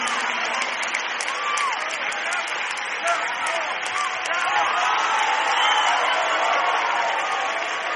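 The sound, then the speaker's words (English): A large church audience claps steadily and loudly for the full stretch, with cheers and scattered shouts rising through the dense wash of applause, erupting in worshipful celebration. “Because I need some people in church who know how to praise Him, who know how to celebrate, who know how to clap your hands.”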